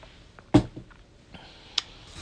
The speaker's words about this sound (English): Let me grab me a quick sip of. Unfortunately, this ain't water, this is coffee, but I do love coffee too.